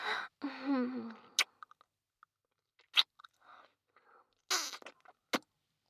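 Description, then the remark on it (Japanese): Wet kissing sounds: a long, smacking, slurpy stretch at the start, then a series of short, sharp lip smacks and soft moist pecks spaced out with quiet gaps, no talking. “まずはキスから。気持ちいいね。”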